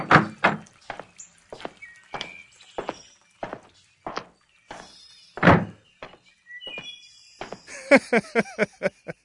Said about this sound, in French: Ouvre la porte, garde. Nous allons partir.